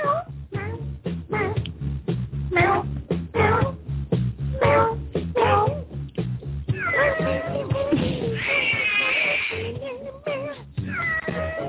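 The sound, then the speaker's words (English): A cat called Kitty meows loudly, first in a quick string of short meows, then in a long, drawn-out wailing yowl, followed by one more brief cry. “Hey, yo, this is the … Show, and Kitty. Hello, and Kitty.”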